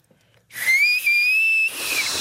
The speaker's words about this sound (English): You push the taco down below your tooth line. Uh-huh. And then... Where the whistle is coming from is the air that's between your pushed down tongue and your fingers.